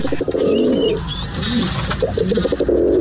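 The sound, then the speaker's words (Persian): Pigeons coo in low, throaty, repeated bursts that roll on steadily, with faint higher chirps of other birds in the background and no one talking. “مدت‌های طولانی است که ما می‌دونیم که پرنده‌ها میتونن مسیرهای خودشون، به خصوص کبوترها میتونن که مسیرهای مشخصی رو یاد بگیرن.”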